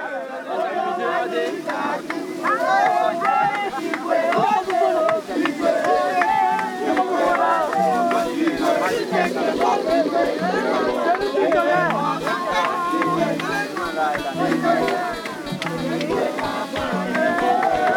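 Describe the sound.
A lively crowd sings and dances together on a boat arriving at Lampedusa at sunset, voices overlapping with chatter and steady rhythmic beats, a festive, continuous celebration that never pauses for the whole stretch.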